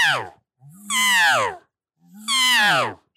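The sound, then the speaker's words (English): Two drawn-out, nasal mewing elk calls blown on an Elk Camper mouth reed, each rising then sliding down in pitch, preceded by a brief clipped one. Loud, with short silences between. “I do it with my Elk Camper. Is the reed I use.”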